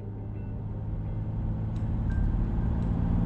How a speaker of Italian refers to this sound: Ogni volta che viaggio in macchina sulla statale che collega Brindisi a Lecce, mi sembra di viaggiare avanti nel tempo in modo accelerato.